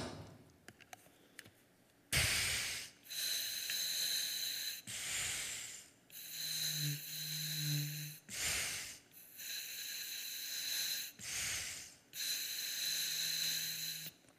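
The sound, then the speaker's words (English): Loud heavy breathing through a diving regulator, with long hissing breaths and short pauses between them in a steady rhythm, and no talking. “So right here, I have the regulator.”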